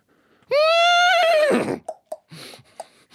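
A horse lets out one loud whinny lasting about a second, wavering and then trailing off, followed by a few short, softer snorts and shuffling sounds.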